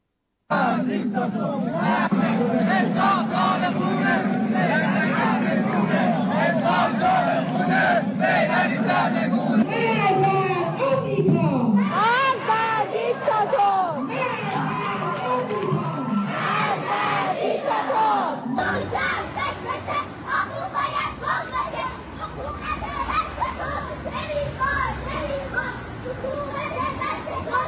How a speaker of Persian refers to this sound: دانش آموزان برخی از مدارس هم بعد از پایان کلاس‌هاشون اومدن بیرون با شعارهای مرگ بر دیکتاتور تو خیابونا به راه افتادن و جواب خامنه‌ای و صحبت‌های اونو دادن.